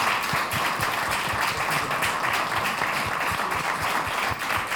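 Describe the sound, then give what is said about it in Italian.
People applauding to welcome a councillor after a roll call, a steady, dense wash of many hands clapping at an even loudness for several seconds, with no talking over it. “Bene, io propongo un applauso di benvenuto e buon lavoro.”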